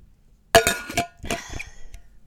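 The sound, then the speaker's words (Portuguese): A sip of water from a glass: a few sharp glassy clinks ring out, followed by softer handling and drinking noises, with no talking. “Vou só acabar com um golo de água para refrescar-vos a mente.”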